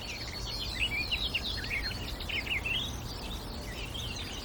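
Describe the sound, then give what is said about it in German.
A barred warbler sings a fast, scratchy, chattering song in continuous bursts over a low steady background rumble. “Ich sage Dankeschön fürs Zuhören und Dankeschön an die Sperbergrasmücke.”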